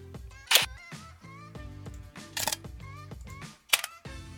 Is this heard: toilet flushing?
no